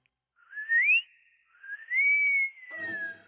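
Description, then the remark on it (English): A person whistles by blowing outward, a short rising note and then a longer held tone that slides down at the end, clear with a breathy edge and no talking. “The outsy and insy whistles. Outsy.”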